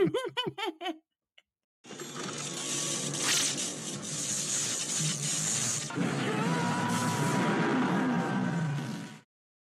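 Short voiced bursts give way to a sci-fi time machine effect: a dense, steady whirring and grinding whoosh with faint tonal hums, holding for about seven seconds before cutting off.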